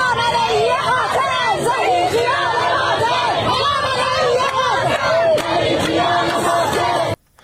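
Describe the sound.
A large crowd of protesters chants slogans against Islamic Republic officials in the streets of Iranian cities, voices rising and falling in a steady repeated cadence, loud and dense throughout before cutting off abruptly at the end.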